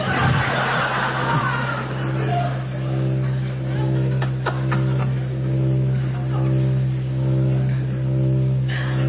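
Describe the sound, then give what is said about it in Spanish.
A car engine drones with a steady low rumble throughout as the car is driven into a swamp, over a rough, churning noise and a few sharp knocks near the middle, loud. “Metí el auto en el pantano y me olvidé de salir.”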